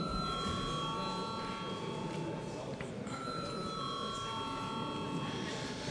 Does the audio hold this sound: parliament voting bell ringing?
yes